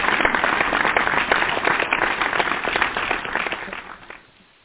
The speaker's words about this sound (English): I want to give a hand clap to all of our guests this evening. Here was our hand clap for the chair.